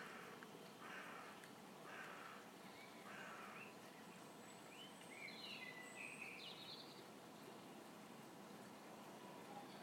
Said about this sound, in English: But there's nice birds out here. The first blackbirds are starting to sing. There's a robin out there. Crows.